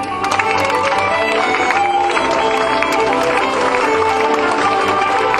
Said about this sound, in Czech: Ještě jednou zatleskejte stárkům z Březolu, Svárova a Zlámance.